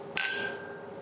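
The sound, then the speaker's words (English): A single bright clink of glasses touching in a toast at the Happel Gin distillery, followed by a clear ringing tone that fades out over most of a second, with no voices over it. “So, cheers. Cheers.”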